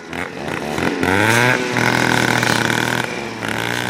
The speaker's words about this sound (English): These aren't your average Joe's weed whackers. These are high-powered trimmers that send leaves and branches flying everywhere. The crew is with Wilderness Forestry.